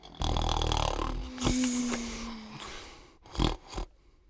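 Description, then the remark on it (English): Loud snoring from a sleeping male: a long, rough rasping breath followed by softer wheezes and two short snorting puffs near the end. No one speaks. “He's sleeping. He's snoring.”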